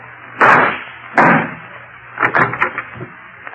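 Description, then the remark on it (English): Two loud, sharp gunshots crack about a second apart, followed by a quick clatter of smaller bangs and rattles, as the lock of a closet door is shot out and the door shaken loose. “Then shoot out the lock.”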